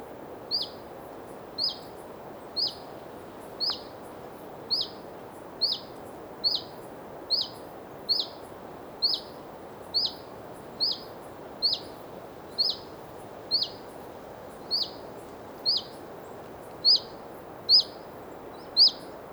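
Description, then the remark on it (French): A common chiffchaff gives its alarm call near its nest in the Valdrome forest at 7:30 pm on 5 August 2017, at 14 degrees: a short, high, upward note repeated about every three-quarters of a second, more than twenty times, over a steady rushing wind sweeping the forest. “Pas grand chose à me mettre sous la dent ce soir, sinon que ce petit puyau véloce qui alarme près du nid.”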